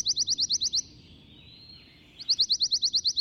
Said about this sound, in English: This quirky warbler is also unique in its tendency to sing every month of the year. So, whether they only pass through your neck of the woods while migrating, or are year-round residents, you can enjoy the pine warbler's sweet little trills.